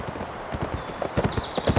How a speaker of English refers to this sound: Billy Morton glanced over his shoulder as his horse ran up a steep incline.